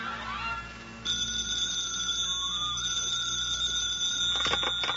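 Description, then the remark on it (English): An old-fashioned telephone bell rings in an apartment in the morning, starting after a brief quiet moment and ringing steadily and loudly, with a few clattering knocks near the end. “The phone rings.”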